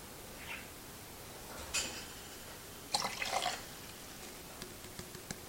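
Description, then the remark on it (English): About 570 milliliters of water at around 20 degrees is poured in two short splashy bursts into a measuring container, followed by a few faint drips and clinks. The sounds are moderately loud, with no talking. “There's our 570 milliliters of water.”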